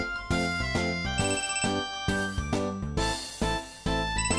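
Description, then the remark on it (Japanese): A mobile phone ringtone plays a bright, tinkling electronic melody of quick repeated notes, loud, with no voices over it, in a library. “ちょっと携帯の電源ぐらい切っといてよ。”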